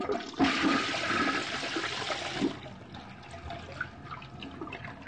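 toilet flush

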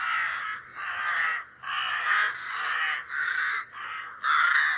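crows cawing

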